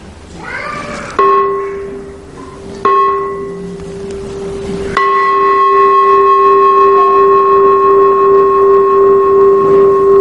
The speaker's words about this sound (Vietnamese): Vì chuông này là của đình của miễu. Cúng đi, lại đi, bỏ vô nhiều nhiều. Này là chuông của đình miễu, không phải chuông chùa.